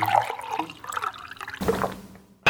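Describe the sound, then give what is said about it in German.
A student makes another cup of coffee in a kitchen: liquid pours and trickles into a cup with small splashing and gurgling, followed by a brief clink and another short burst of pouring, moderately loud with no talking. “Der Student schleppt sich mit progressiv weniger Willen in die Küche und macht sich eine weitere Tasse Kaffee, um ihm noch den nötigen Anschub zu geben.”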